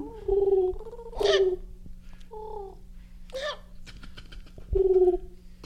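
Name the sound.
birds calling at night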